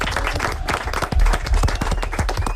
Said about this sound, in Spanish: Molt bé! Molt bé, un aplaudiment, molt bé.